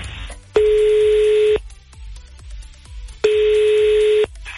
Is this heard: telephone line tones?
yes